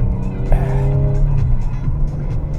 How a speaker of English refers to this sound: First time in a very long time that I've experienced understeer with this all-wheel drive car.